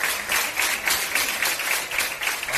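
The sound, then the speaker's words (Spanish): Health centre staff at the Ramón y Cajal health centre in Alcorcón applaud steadily for a VTC driver who takes patients there without charge, a dense, crackling wash of many hands clapping at once, fairly loud and continuous with no voices over it. “Vio cómo le aplaudían y le regalaban dos sobres.”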